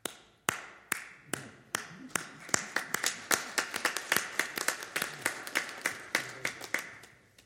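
Applause from a church audience, beginning with a few scattered claps that quickly settle into a steady, fairly even rhythm of crisp hand claps lasting several seconds.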